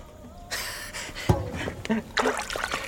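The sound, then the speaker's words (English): Water from a bath splashes and trickles in a few irregular bursts as a handful is flicked out as a blessing, with brief dripping in between. “I bless you with this water.”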